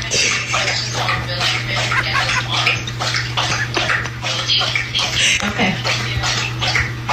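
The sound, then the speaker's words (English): A dog laps water from its bowl next to a work desk during a Zoom call, a steady fast run of wet slurping splashes that continues without pause over a low electrical hum. “She left her dog's water bowl right next to her work desk.”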